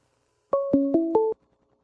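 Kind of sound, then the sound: signal or alarm, phone ringing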